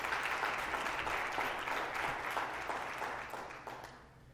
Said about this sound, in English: Hey, did they not just knock it out of the park this morning? Was that awesome stuff? If you could, give them a round of applause, because that was good stuff.